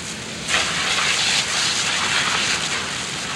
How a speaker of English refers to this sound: And about once a week, when Abe is really dirty, he gets hosed down.